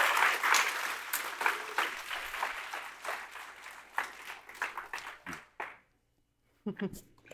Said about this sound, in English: I also wanted to give a shout out because 2 days ago, Cult of the Dead Cow celebrated their 40th anniversary. So give them a round of applause, guys.